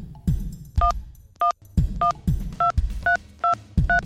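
A phone number is dialed on a cell phone keypad: about seven short, bright dual-pitched beeps in a quick, slightly uneven sequence, each paired with a soft press thump, with no voices.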